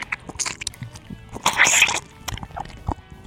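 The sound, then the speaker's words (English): Someone chews a Toblerone chocolate bar right up against the microphone in an ASMR video, with wet, crunchy mouth sounds and a louder crunching burst midway through. No talking. “Or people will be like chewing food right up against the microphone.”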